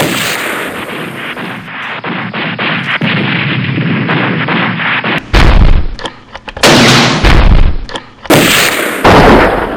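A volley of gunfire: dense, crackling shots fill the first half, then several heavy, booming blasts burst out loudly in quick succession with brief gaps between them.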